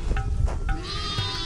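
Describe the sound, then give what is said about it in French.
A goat bleats in a wavering, nasal cry, fairly loud, with a low rumbling background underneath; no one speaks. “Une petite dame qui n'a pas grand-chose, mais elle a une chèvre.”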